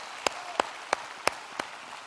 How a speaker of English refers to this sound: So let us give God a gracious clap offering of joy and victory and peace. Hallelujah.